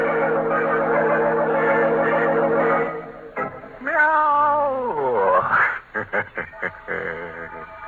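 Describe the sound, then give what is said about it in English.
A cat yowls loudly, a long drawn-out wail that bends up and down in pitch, followed by a series of short, sharp cries. “Everybody's dead but the cat.”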